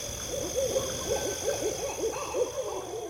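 owl hooting

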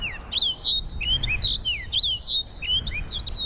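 snow bunting song

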